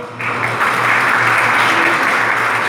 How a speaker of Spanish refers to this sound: Damos un caluroso aplauso.